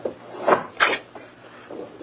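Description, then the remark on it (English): A wooden study door creaks open in two short, scraping bursts, followed by a faint rustle. No voices are heard. “Here's the study door, and it's open.”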